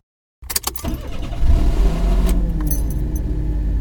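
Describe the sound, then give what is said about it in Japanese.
A man starts his car's engine at nightfall: a few sharp clicks and key rattles at first, then the motor cranks and catches, settling into a steady, low idling rumble. “彼は車のエンジンをかけた。”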